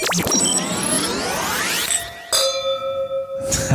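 Glasses clink together, leaving bright, high ringing tones that hang and shimmer, followed by a few more light clinks. The sound is fairly loud, with no talking.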